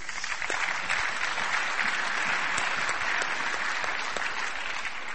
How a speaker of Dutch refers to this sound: mag ik een applaus, want het is moedig.